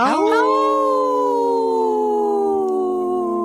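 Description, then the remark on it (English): A person imitates a wolf howl on the Native Roots Radio show: one sustained, steady tone that rises sharply at the start, then holds and slowly sinks in pitch for several seconds, loud and unaccompanied. “Howl! Oh, good one”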